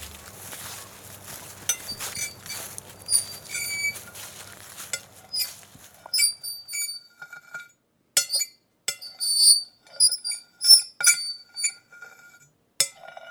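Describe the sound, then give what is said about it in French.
Slates clink together in a long run of sharp, bright, ringing taps, irregular in rhythm and varying in loudness, starting over a soft hiss that fades, leaving the clinks alone. “Ça, c'est les ardoises.”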